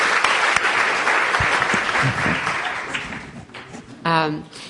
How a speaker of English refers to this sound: So can I ask us all to give them a big round of applause? Really.